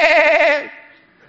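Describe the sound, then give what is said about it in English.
A single loud, wavering bleat from a goat or lamb, lasting about half a second before trailing off into quiet background. “Man, you're sitting there trying to pray, and you're smelling these goats and lambs.”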